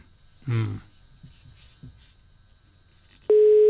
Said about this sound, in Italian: Quarto squillo. Butta molto male. La tensione quinto sale. Butta male, butta male.